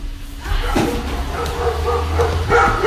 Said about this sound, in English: She walked away and set the dogs off. I was going to say, she yelled and the dogs in the background were going off.